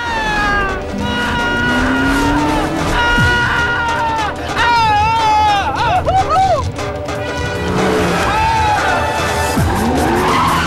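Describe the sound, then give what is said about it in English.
Loud tire squeals wail and bend in pitch again and again over roaring car engines, as two cars swerve after their tires are shot at and another car reverses at high speed, turns and speeds forward, with no break in the noise. “The two cars swerve, creating a barrier.”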